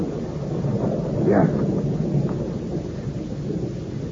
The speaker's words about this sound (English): In this rain? Yes. Monsieur, it has started to rain.